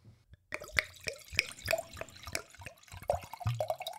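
Wine splashes and glugs into a glass in quick, irregular bursts with bright, rising plinks as a man pours himself a large serving, starting after a brief silence and continuing steadily with no talking.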